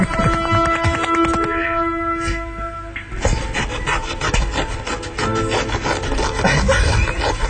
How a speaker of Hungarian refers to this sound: Ő 6 éve elkezdett fűrészelni.